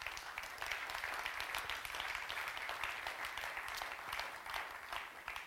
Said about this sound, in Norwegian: Da det en stor glede for meg å ønske velkommen til verdidebatt og til Philadelphia kirken her i Drammen. Og velkommen særskilt til våre debattanter. Vi gir dem applaus.